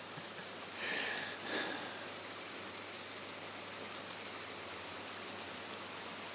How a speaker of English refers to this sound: I love rain. I absolutely love rain. Something magical about it. Okay, it can ruin a holiday. Or it can dampen your spirits if it goes on for too many days in a row. But even on a day like this, something magical about it.